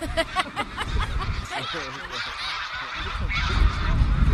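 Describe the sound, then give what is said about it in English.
A flock of hundreds of geese flying overhead in a V formation honks continuously, many overlapping calls forming a busy, clamorous chorus that swells slightly louder toward the end. “The longer arm has more geese in it.”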